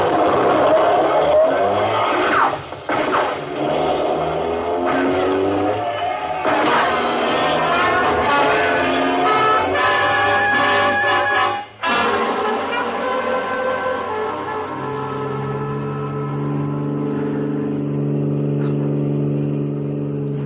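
A car speeds along at 80 with a loud, steady engine roar that holds for the whole stretch, its droning pitch rising and settling with a few brief dips in level.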